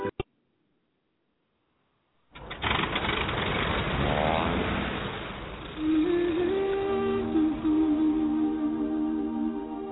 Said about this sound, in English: I thought she was on a motorbike then.